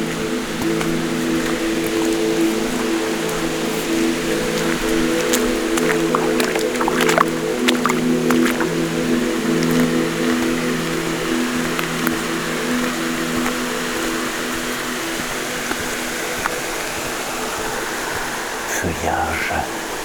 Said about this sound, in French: Beaucoup de brume et d'humidité dans cette forêt domaniale de Micou. Tout autour de vous, l'eau s'écoule de partout. Petite cascade, source.